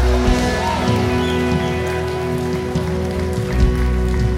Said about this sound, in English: Church, let's clap our hands to the Lord today.